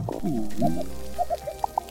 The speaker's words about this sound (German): Was hört man, wenn man unter Wasser in ein Korallenriff hineinlauscht?